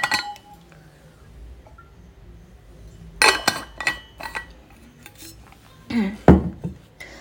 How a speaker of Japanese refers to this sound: ちょっと水飲みます。